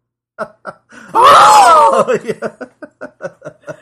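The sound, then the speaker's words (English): A person lets out a loud, wavering scream lasting about a second, then breaks into a string of short, rhythmic, breathy laughs or gasps. “You can scream like”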